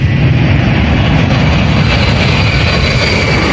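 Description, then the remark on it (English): A loud, steady roar of jet engines as a plane takes off from a runway, a dense rumbling wash with a faint high whine. No voices. “Now, a plane takes off from a runway.”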